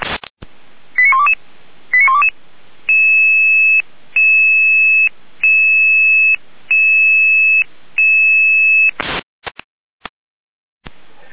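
An emergency rescue dispatch alert tone sequence in the Weimar area, Germany: a few quick electronic chirps, then five long, steady beeps separated by short gaps, ending in a couple of brief bursts. Loud and clear, with no talking.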